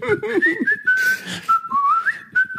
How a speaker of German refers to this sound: Und dann hättest du noch so einen Gehstock gehabt und hättest noch gepfiffen, als du in den Unterrichtssaal reingekommen bist.